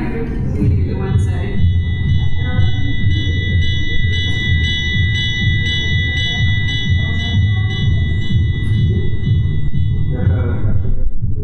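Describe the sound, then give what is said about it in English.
A fire bell, used as a transition sound effect, rings steadily for about eleven seconds, its sustained metallic tones pulsing slightly over a heavy, constant low rumble. No one speaks. “We will have a transition of a fire bell tonight.”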